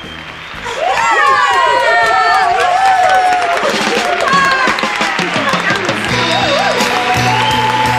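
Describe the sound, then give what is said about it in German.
A loud concert crowd claps and cheers continuously, with high excited screams and whoops rising above the dense applause after a brief quieter opening, the most applause going to a singer. “Den meisten Applaus erntete natürlich ….”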